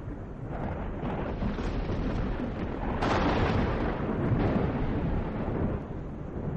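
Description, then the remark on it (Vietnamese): Loud, continuous rumbling thunder with a heavy crackling texture, swelling into sharper lightning cracks partway through and rolling on steadily to the end, with no voices; green lightning bolts streak across the sky. “một lần nữa lại tụ tập lại, vằn vẹn những tia sét ở trên bầu trời, là những tia sét màu xanh lục, trông cũng có chút quỷ dị.”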